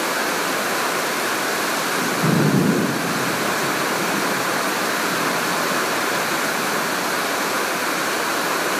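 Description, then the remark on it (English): Heavy rain pours down in a steady, dense hiss that fills the whole recording, with a brief low rumble swelling near the start before the downpour continues unchanged. “Anybody here saw me doing this and thought that I was recording the rain, they'd probably think I was crazy.”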